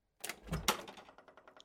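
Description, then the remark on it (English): Knocking on a door from a hallway: a couple of heavy thuds, then a quick, even run of lighter raps that gradually soften, with no voices. “So he can just sit there in the hallway and knock on that door.”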